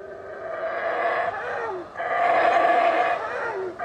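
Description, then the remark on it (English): Deep, droning roars and howls from several males calling to each other across a rainforest tree canopy rise in two long, sustained swells separated by a brief lull, the calls overlapping into a rough, continuous chorus with no talking. “And they're calling to each other, roaring, howling across the canopy.”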